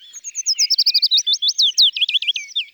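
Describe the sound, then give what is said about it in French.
A willow warbler sings one clear phrase of rapid, sweet whistled notes that cascade gently downward and end with a slight flourish, with no other sounds around it. “Et enfin, voici le pouillot fitis.”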